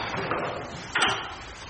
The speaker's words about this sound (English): Lift the paper off that sticky type, and it does make a sound. You can hear it come off that sticky type.